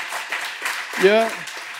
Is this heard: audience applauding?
yes